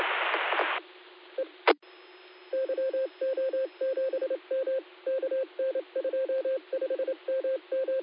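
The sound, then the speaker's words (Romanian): A rapid series of telephone dialing tones, short dual-pitch beeps in quick bursts, sounds after a brief burst of static and a click, fairly loud with no talking. “Puțin să-mi trec și eu să dau un, să dau un telefon să-mi spună mai multe detalii.”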